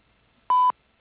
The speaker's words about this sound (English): We're not home right now, but if you'd like to leave a message, do so after the beep.